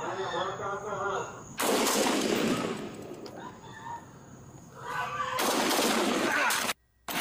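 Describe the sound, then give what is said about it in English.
Police bodycam audio from Hillsborough County of a deputy and a suspect exchanging gunfire, the deputy being shot: two loud bursts of gunfire, each a rapid flurry of shots lasting about a second, separated by a tense pause, with raised voices and shouting before and between them. “A deputy there on the road to recovery after being shot over the weekend during an exchange of gunfire with a suspect.”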